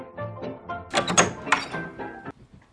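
door opening and closing

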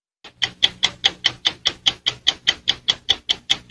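clock ticking

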